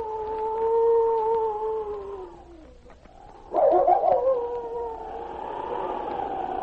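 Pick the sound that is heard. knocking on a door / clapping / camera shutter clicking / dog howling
dog howling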